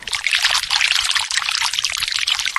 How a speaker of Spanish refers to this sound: Lo primero que hicieron los servidores fue prepararle una gran tina llena de agua.